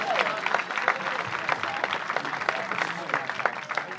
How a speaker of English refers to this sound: I'd like to start off one of the best ways I can think of by asking each and every one of you to turn to each other and give yourselves a big round of applause for coming on out this afternoon.